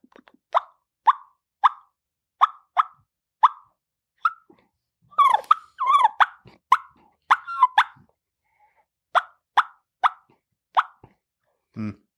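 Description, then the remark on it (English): A person makes a three reed ghost cut, forcing soft little gusts of air and popping the lips in a series of soft, bubbly clucks, evenly spaced at first, then a quick busier cluster, then a few more spaced pops, with no talking. “This is a three reed ghost cut, and basically it's just how I'm getting that little soft bubble cluck is just forcing soft little gusts of air, and then just kind of popping my lips.”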